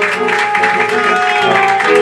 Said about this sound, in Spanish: Correcto, fuerte el aplauso.